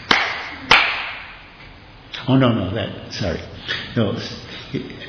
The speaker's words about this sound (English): And Srivas Thakur clapped his hands three times.